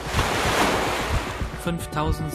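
nature, ocean waves surging

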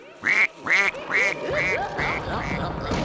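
bird, duck quacking

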